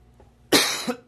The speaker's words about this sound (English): Excuse me. There you go. It's me coughing.